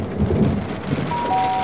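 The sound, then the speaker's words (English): A thunderstorm rumbles with low thunder over steady, hissing rain, the sound filling the space continuously and fairly loud, with no voices present. “Wow, look at the storm.”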